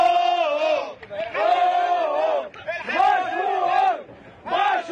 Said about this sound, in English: Those are the joyous sounds of the tugboat bros who successfully dislodged the Ever Given, the ship, from the Suez Canal. I'm very happy for them.